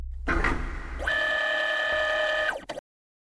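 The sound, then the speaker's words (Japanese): A cockpit door opening: a low mechanical rumble gives way to a steady, layered electronic whine that holds for about a second and a half before cutting off with a short clunk. “コックピットの扉が開く音、そして新鮮な空気と光があなたに差し込んできます。”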